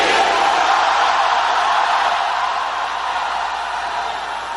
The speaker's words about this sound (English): Let me hear you shout that name.